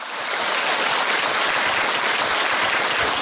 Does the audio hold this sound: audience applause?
yes